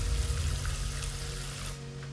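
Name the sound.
water running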